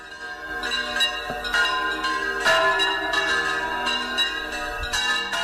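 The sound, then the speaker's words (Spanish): Church bells ring out steadily from a tower, overlapping strikes blending into a rich, sustained metallic peal with lingering harmonic tones, loud and continuous with no voices. “Las campanas son hermosas, tenían y tienen su propia voz, y como voz que tienen, también dominan un lenguaje, aunque es un lenguaje que cada vez menos personas conocen.”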